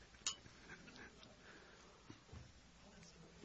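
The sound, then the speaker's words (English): A single bright clink of glasses touching during a toast rings out near the start, followed by quiet room noise with faint shuffling and small table sounds. “Cheers. Let's drink. Cheers.”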